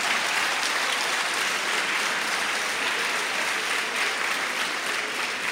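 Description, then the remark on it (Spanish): A crowd of women claps steadily and loudly for several seconds, a dense, continuous wash of many hands with no voices standing out. “Bueno, creo que ahora aplaudieron las mujeres.”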